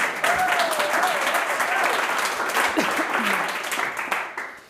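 Sustained audience applause, a dense wash of many hands clapping at steady loudness for several seconds, with faint cheering or voices mixed in before it tapers off at the end.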